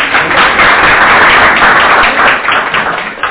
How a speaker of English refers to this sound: 43 years. You should give a round of applause just for that.